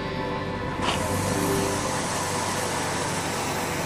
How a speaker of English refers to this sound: This is no ordinary boat. It's got three engines, two of them to make it go fast, and one to pump seawater through this hose to put out fires.